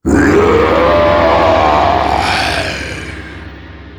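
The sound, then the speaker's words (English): A Komodo dragon, just given its porridge breakfast, gives one long, loud, rasping roar, a deep growl with a rising and falling pitch that lasts a couple of seconds before fading into a rumbling tail. “The dragon roared, and then he walked away with the porridge.”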